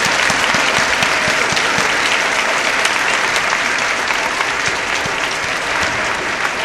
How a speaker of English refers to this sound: And so if you could start by a round of applause, that would be great.